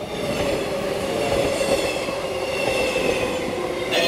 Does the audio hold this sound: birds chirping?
no